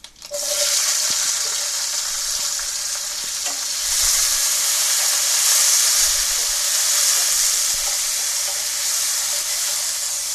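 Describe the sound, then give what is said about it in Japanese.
Garlic, already lightly golden, and tomato fry in a pan with a steady, bright sizzle that crackles and hisses continuously, swelling slightly louder midway, with occasional soft clinks of stirring and no voices. “ガーリックが軽くきつね色になったらトマトを入れます。”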